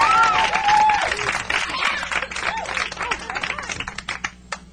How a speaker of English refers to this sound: Thanks very much for the clap.